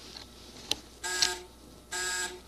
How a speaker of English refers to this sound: Well, see, when the button, you can make these, the two dots will go off. Now, watch. When they go on, you'll hear a buzzer. See?